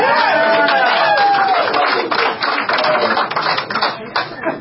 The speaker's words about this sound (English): By the way, I just saw someone applauding. Don't let the fact that I'm going to continue talking stop you from applauding at any time.